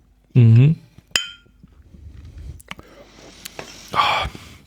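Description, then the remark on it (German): A single bright, ringing clink of glasses of a sparkling lemon drink touching in a toast, short, with a voice just before it and quiet murmuring and shuffling afterward. “Ich sag trotzdem nochmal Prost.”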